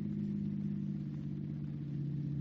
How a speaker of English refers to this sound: The car seems to be slowing down. Oh, this stupid old car. It's either running into people or getting flat tires or slowing down for no reason.